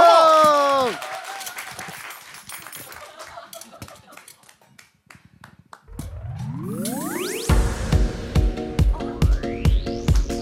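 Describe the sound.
After a short exclamation from a voice, an audience claps in scattered, uneven bursts for several seconds. Then music with rising swooping tones and a steady pounding beat starts and takes over.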